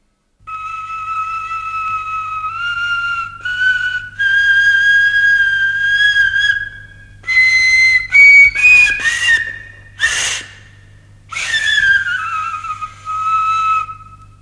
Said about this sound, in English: This bone flute probably dates from the Bronze Age and was found at the settlement of Korslet. It is kept at the Historical Museum of Bern.